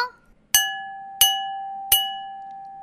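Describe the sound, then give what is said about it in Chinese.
An empty bowl with no water added is struck three times at an even pace, each hit giving a bright clink followed by a clear, steady ringing tone that sustains and slowly fades between strikes. “那我们现在就听听看没有加水的声音哦。”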